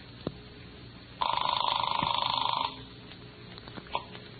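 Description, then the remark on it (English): A single telephone ring heard through a phone line on a call from Denver to Washington, D.C.: a rapid warbling trill lasting about a second and a half, thin and band-limited, followed by quiet line hiss and a few faint clicks. “Oh, they're ringing now.”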